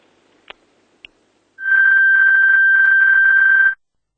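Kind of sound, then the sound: signal or alarm, telephone ringing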